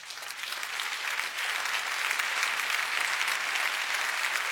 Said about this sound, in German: Applaus bei Männern und Frauen im Publikum.